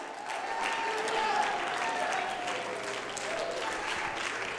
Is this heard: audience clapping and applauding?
yes